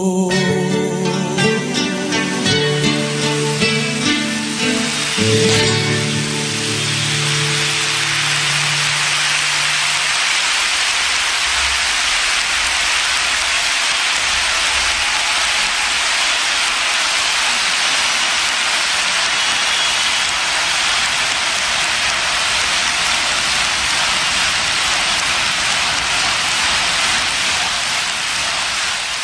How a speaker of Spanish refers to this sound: No, quiere decir que todos estos aplausos es por el tema que viene, ¿no?